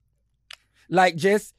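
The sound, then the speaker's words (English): A person imitates cows chewing: a quick mouth click, then two short voiced, munching grunts in a steady rhythm, with no other sounds around them. “How are they chewing? Do it in your camera.”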